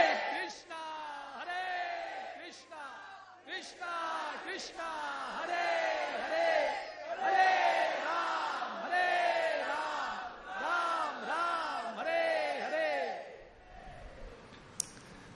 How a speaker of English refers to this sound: The ideal feeling for chanting is like you have lost your mother, and what happens when you do that? You just shout. So ideally, the Maha Mantra has to be chanted loudly.